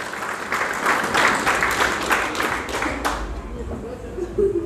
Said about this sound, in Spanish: Fuertes palmas al Señor en esta noche. Aleluya.